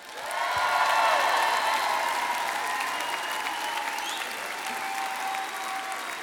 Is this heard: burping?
no